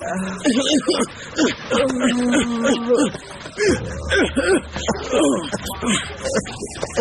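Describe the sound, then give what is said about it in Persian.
A man, addressed as master, cries in broken, wavering sobs and whimpering moans that rise and fall, with a low steady hum underneath in the second half. “چرا گریه رو شروع کردی استاد؟”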